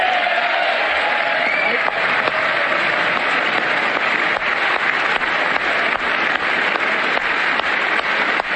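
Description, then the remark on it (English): Sustained applause from a large audience at a speech by Trump, who applauds toward the Republicans while the Democrats stay seated; a dense, steady wash of clapping that holds at full strength for the whole stretch, with scattered cheers and calls mixed in. “Notice how Trump is only applauding towards the Republicans now because the Democrats haven't stood to applaud for anything yet.”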